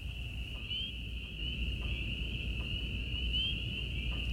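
A steady, unbroken shrill chorus of crickets, katydids and peepers on a country night trills through the whole stretch at an even, moderate level, over a soft low rumble with faint ticks now and then.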